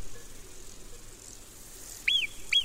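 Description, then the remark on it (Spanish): A marmot gives two sharp, high-pitched alarm barks that sound almost like whistles, about half a second apart, standing out clearly against a quiet outdoor background hiss. “Esta es la marmota. ¿Este agudito? Esto es un ladrido, aunque parece un silbido.”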